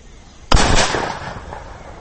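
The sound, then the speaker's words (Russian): A single loud shotgun blast, a first-ever shot fired at an old bucket set on a rise away from a house, goes off after a quiet moment, its sharp crack trailing into a rumbling, echoing decay that fades over the next second and a half. No one speaks. “Вот мой первый в жизни выстрел.”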